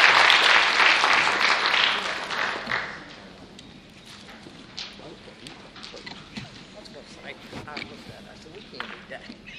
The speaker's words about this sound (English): How about another round of applause for our new team? That's a great job.